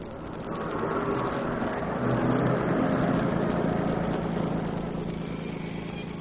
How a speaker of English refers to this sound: Is that a car coming behind us? Yes, and it's rolling right along. Sounds it.